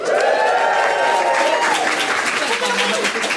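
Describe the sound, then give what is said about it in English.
Sustained audience applause at a Christmas quiz as the first-place team is announced, a dense, steady wash of clapping at full volume for the whole stretch, with a few raised voices and cheers faintly mixed in. “Hear that applause.”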